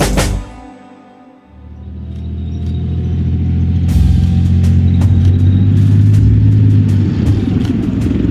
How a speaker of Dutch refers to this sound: Dit is het gebrom van de motor en het geluid van de rupsbanden over ruig terrein van een tank Leopard 2. De Leopard 2 is een zware gevechtstank waar 4 bemanningsleden voor nodig zijn om te besturen en te bedienen.